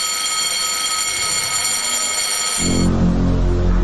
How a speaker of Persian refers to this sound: بوق قطار، صوت کشتی، زنگ کارخانه.